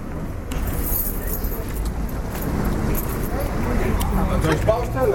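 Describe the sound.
A large bunch of keys jangles and clinks as a man arrives to open up a cinema before a screening, with scattered metallic rattles over a steady background rumble and some indistinct voices.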